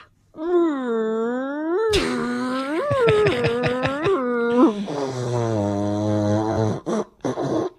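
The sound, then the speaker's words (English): A person vocally imitates a Subaru WRX STI sports car with a Boxer 4 engine, starting with a wavering hum, then several quick throaty revs that swell and drop in pitch, ending in a lower buzzing drone with short choppy bursts. “Next up, we'll be doing a Subaru WRX STI.”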